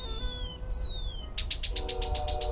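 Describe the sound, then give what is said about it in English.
A red-winged blackbird, flaring its wings and displaying its red epaulets to stake out a mating territory, calls outdoors at Twin Lakes Open Space in North Boulder: a few thin, sliding whistles followed by a rapid, buzzy trill of repeated notes, clear over a low background rumble. “That red-winged blackbird was flaring its wings and displaying its red epaulets, so it's trying to stake out a mating territory.”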